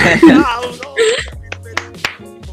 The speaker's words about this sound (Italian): L'applauso! Scusate, ho fatto mezzo applauso perché c'ho Vinicio, il mio cane, addosso.